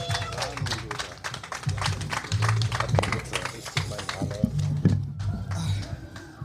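A crowd at a hip-hop event applauds loudly to welcome the first guest, with dense, rapid clapping throughout, while cheers and whoops rise over it and a low hum of voices lingers underneath.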